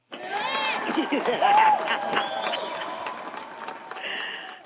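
A burst of applause with crowd cheering and mixed voices, a dense, steady wash of clapping lasting a few seconds before tapering slightly at the end.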